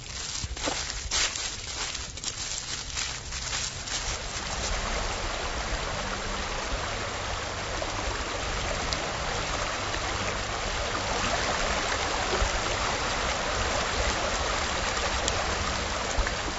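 Shallow water at a riffle in Morris Creek tumbles steadily over rocks in a constant rushing babble, with a few scuffing footsteps near the start and no talking.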